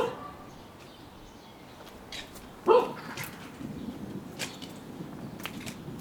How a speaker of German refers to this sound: Das ist Kossosch, der Nachbarshund.